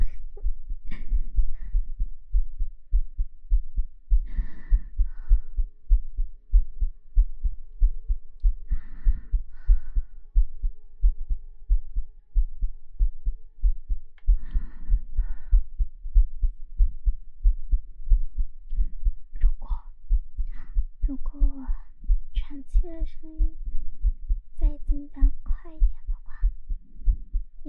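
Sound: rapid heartbeat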